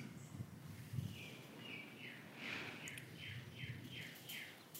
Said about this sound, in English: And we have the support of the singing birds.